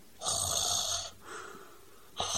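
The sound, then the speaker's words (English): A voice reading a children's story aloud imitates the snoring of Mrs. Large and Mr. Large: a long, loud, raspy snore, then a softer, shorter one, and a third loud snore starting as the sound cuts off. “"It's Mummy snoring," said Luke. "Daddy's snoring too."”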